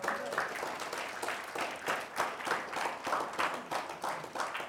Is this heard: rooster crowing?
no